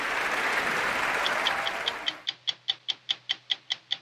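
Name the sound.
audience applause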